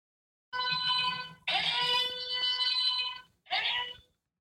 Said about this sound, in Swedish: Hörde ni den varningssignalen? Det tjuter i mina öron. Det var den berömda vetoknappen.